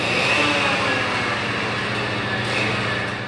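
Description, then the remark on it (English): Loud, continuous rail-grinding machinery rumbles along BART subway track at about 2 a.m., huge machines running back and forth grinding down rails, a dense, harsh, deafening roar with steady low throbbing and a bright metallic hiss, sustained without a break. “Huge machines run back and forth on long stretches of track, grinding down rails and carrying new ones.”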